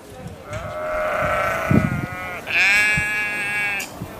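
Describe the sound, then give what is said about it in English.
Two long, quavering sheep bleats, one right after the other, the second higher-pitched and brighter, with faint low thumps and rustling in the background, at a show in the grounds of Tatton Park. “We're set in the breathtaking grounds of Tatton Park, and there's a hum of wildlife all around, including sheep, as you can hear, deer, and of course, incredible plants.”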